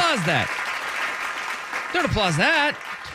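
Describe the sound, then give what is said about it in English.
Steady audience applause fills the whole stretch as a dense, even wash of clapping, while excited voices call out over it twice, briefly at the start and again near the end, at a show on the South Waterfront in Portland, Oregon. “Don't applause that.”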